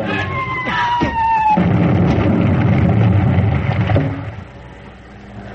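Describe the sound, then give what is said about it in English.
A Japanese military airplane flies over, its engine roar building into a loud, steady rumble with high whining tones early on, then dropping off sharply near the end. “It's a Jap plane.”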